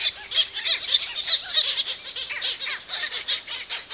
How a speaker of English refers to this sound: And being in a petrel colony with a good number of birds at night, especially early at night, as they're all coming in full of food for chicks or ready to swap over with their partners incubating on eggs, is the most incredible experience in nature